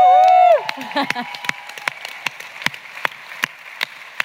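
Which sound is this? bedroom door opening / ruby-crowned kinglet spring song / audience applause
audience applause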